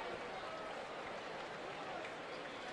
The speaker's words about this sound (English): Crowd here at Oriole Park putting their hands together, making some noise, trying to encourage Burns through this top of the fifth inning.